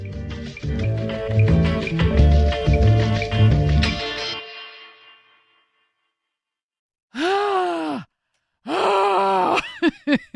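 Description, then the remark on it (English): Music fades out into a pause, followed by two loud, drawn-out groaning vocal warm-up noises made to prepare for on-air work, each swooping up and down in pitch, with a few short choppy bursts at the end. “Listen, I was in musical theater for like 20 years, and I've never heard a warm-up like that.”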